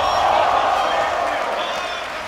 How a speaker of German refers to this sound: 5 Spieler sitzen auf jeder Seite der Bühne, das Gesicht vom Computerbildschirm verdeckt. Über ihnen ein riesen Flatscreen, auf dem das Spiel übertragen wird. Einer der Spieler drückt einen Knopf auf seiner Tastatur und die Menge jubelt.